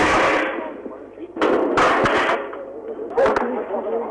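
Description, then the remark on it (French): A few sharp sniper gunshots crack out at irregular intervals at an airfield in Munich, where the sharpshooters are searching the grounds with police dogs, over a rough, noisy outdoor background, like an old field recording. “Vous entendez actuellement les coups de feu des tireurs d'élite qui sont toujours en train de fouiller avec des chiens policiers sur le terrain, en train de fouiller.”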